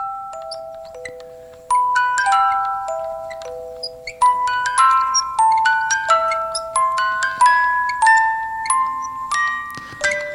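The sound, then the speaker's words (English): A music box opens and plays a tinkling melody of bright, plucked metallic notes that ring and overlap, starting with a few slow tones and then settling into a steady, lilting tune. No one speaks. “It's a mysterious little box and the cat tilts his head as the music box opens and you hear...”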